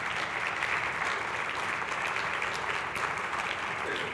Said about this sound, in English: Give him a round of applause if you would, as a sign of welcome.